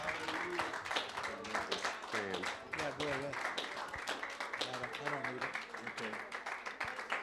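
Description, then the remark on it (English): A church audience claps steadily in praise for several seconds as a preacher is brought to the pulpit, a dense run of sharp hand claps while raised voices call out over it, fairly loud throughout. “Give him a hand clap and praise.”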